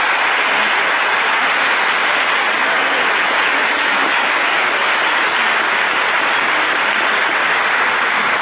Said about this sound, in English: And so before we begin, I really would like to urge you to give all of them a nice round of applause for making the effort, and not just these candidates, but all the candidates in all the races for all the parties.